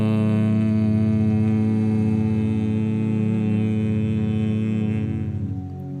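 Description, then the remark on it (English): A deep, steady droning hum rich in overtones, a chanted Om, holds for several seconds, then gently fades toward the end. “Let the hum of the fill your mind as tingling in the back of your head, around your cerebral cortex, and in your palate.”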